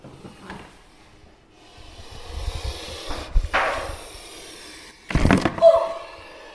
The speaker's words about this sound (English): just going to open the cage.